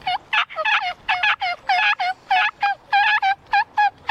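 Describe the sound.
A loud run of turkey calls made with a mouth call and push call combo, about a dozen sharp yelping bursts in quick, uneven succession over four seconds, with no talking.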